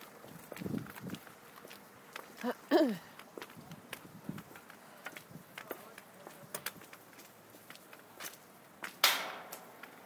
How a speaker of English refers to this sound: Just walking back along the car park now.